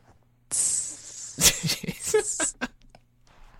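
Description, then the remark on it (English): Someone imitates a sizzling tater tot with a loud, steady two-second hiss through the teeth, broken by a few crackling pops and sputters before it cuts off abruptly. “Yeah, did you like the Tater Tot impression? Oh, it was the Tater Tot impression. You should have been sizzling.”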